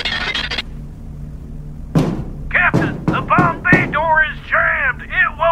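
A sudden burst of sharp bangs and heavy thuds, four loud impacts with metallic clattering, as the side door of a Boeing bomber blows off and all the bombs get sucked out, followed by excited voices over a steady low hum.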